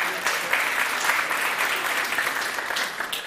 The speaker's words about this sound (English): Anybody know the name of the guy? Steve Jobs, yeah, brilliant. Big round of applause. Woo!